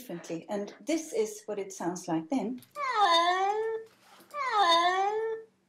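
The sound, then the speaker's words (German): A person talks briefly, then a distressed cat in its transport box on the way to the vet lets out two long, loud, drawn-out meows, each sliding downward in pitch, separated by a short pause. “Aber in seiner Transportkiste auf dem Weg zum Tierarzt miaut er völlig anders, und zwar so.”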